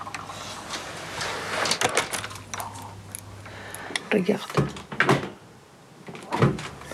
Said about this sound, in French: On ouvre le frigo. On ferme le frigo. On ouvre le frigo. On ferme le frigo.